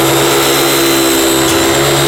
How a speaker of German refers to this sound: Hören Sie das Geräusch? Ja, ich meine, ist ein Dampfkochtopf, also ein normaler Dampfkochtopf.